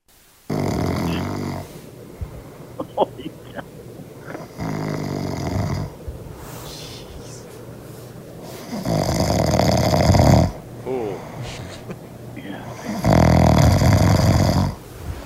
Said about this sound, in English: This is my wife recorded me snoring. This is what it sounded like.